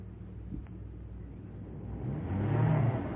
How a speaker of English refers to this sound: What are you stopping the car for?